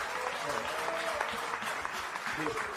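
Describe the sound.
A sustained ovation for Lionel Scaloni in a press room: dense and steady clapping from a crowd, with voices murmuring and calling out underneath throughout.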